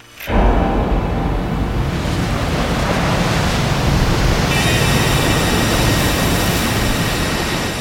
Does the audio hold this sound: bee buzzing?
no